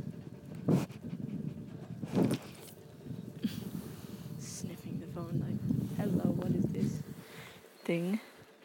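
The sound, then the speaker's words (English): A big dog pants steadily, with a few louder breathy huffs standing out, while a person's soft voice murmurs now and then over the breathing. “Hi, doggy. Big doggy.”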